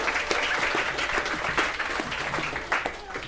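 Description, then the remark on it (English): A group of people on a game show clapping steadily for a contestant in a dense, continuous round of applause, loud throughout with many overlapping claps and no voices standing out. “round of applause”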